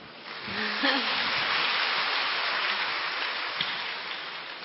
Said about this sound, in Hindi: तो आप सब अपने लिए तालियां बजाओ।